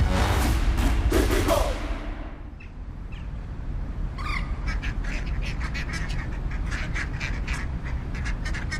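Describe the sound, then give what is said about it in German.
Ducks quack in a busy, overlapping chorus outdoors, rapid calls repeating over a steady low rumble after a loud noisy burst at the start; no one speaks. “Nein, wir befinden uns nicht an einem Ententeich, sondern im Münchner Stadtteil Milbertshofen, genau genommen auf dem Gelände des Olympiaparks im Olympiastadion.”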